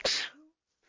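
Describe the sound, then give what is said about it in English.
A single loud sneeze bursts out sharply and fades within half a second, followed by a brief faint breath or murmur. “Bless you.”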